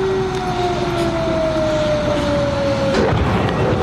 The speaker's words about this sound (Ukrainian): От зараз ми чуємо, що знову вибух.